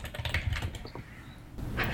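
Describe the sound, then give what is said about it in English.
Rapid, irregular keystrokes clatter on a computer keyboard, fairly loud, a quick flurry of clicks with a brief pause before the tapping resumes, as a man searches for an actor's name. No one speaks. “I can hear him typing.”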